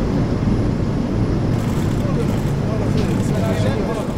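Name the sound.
airplane engine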